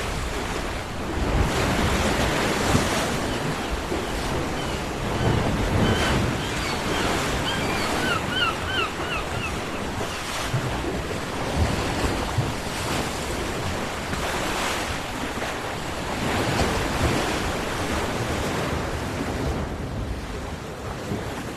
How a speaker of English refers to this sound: But I think it's just the sea's fantastic, it's so calm.